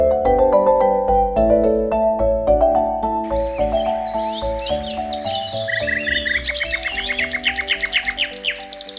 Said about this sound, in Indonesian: Anak-anak, cuaca pagi ini nampak cerah. Banyak burung-burung berkicau di kebun subur makmur.